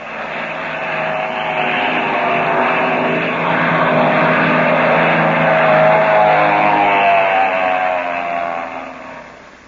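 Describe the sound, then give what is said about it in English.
A loud propeller-plane engine roars as a black plane comes over a ridge and dives toward the people on the ground, its droning harmonic whine swelling to a peak midway and then easing off as it passes overhead. No voices are heard. “That plane is diving on us.”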